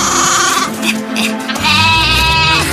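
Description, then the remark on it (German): Sheep being herded together bleat loudly, several wavering, nasal cries overlapping in a steady chorus that swells in the second half, with no voices over it. “Sogleich beginnen sie, die Schafe zusammenzutreiben.”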